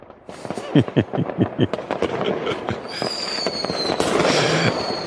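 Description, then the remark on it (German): A rapid, irregular volley of fireworks cracks and pops, followed by a steady crackling hiss with a thin whistling tone rising above it. No one speaks. “Zum einen ist es irgendwie auch Freude, weil man mag ja auch Feuerwerk, aber ich habe da auch Gänselaute vernommen im Hintergrund”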